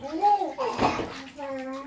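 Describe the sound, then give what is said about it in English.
A brief splash of water in a bathtub as a young child splashes with their toes, a single burst in the middle, surrounded by the child's high-pitched babbling and vocal sounds. “You're splashing me with those toes.”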